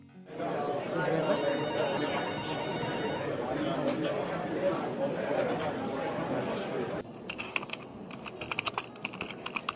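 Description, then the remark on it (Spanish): A mobile phone rings with a bright, repeating electronic ringtone for a couple of seconds over busy office chatter, followed by brisk keyboard typing. “El teléfono móvil, qué horror, qué espanto.”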